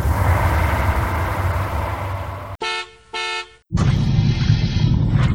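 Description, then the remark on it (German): A bus engine rumbles, breaks off for two short, loud horn toots, then resumes its steady drone as the bus pulls in. “Sie gehen zum Bus und da kommt er schon.”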